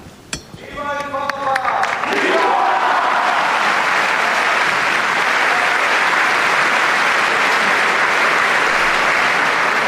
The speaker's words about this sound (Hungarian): Ekkora üdvrivalgást és kiáltást rég nem hallottunk, még azt hiszem a pandémia előtti időkben. Na de jó volt hallani ezt, a kedves hallgatók is akkor ebből hallhatták, hogy elég sok zarándok van jelen a 6. Pál teremben.